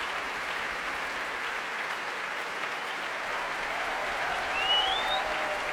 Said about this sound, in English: Huge round of applause for percussionists tonight. Stephen Henderson and David Jackson, who had such a great time in that Tom and Jerry medley.